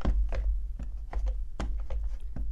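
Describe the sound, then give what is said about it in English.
Steady walking footsteps, each step a soft double thump of heel then toe, repeating at an even pace over a low, constant hum. The steps sound moderately loud, with no voices. “So if you are just strictly walking, it's heel to toe, heel to toe.”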